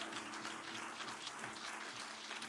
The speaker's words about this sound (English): Come on, give the Lord a proper clap if you believe that.